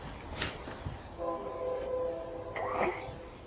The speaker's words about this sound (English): Did you hear the train whistle? Choo-choo.